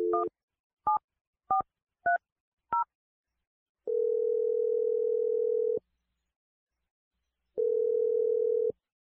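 Five quick touch-tone beeps of a number being dialed, each a different pitch, followed by two long, steady low ringing tones with a pause between them. No one speaks.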